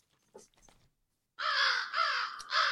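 Crows cawing loudly in long, harsh, overlapping calls that fill the second half, after a few brief faint clicks and rustles at the start. No one speaks.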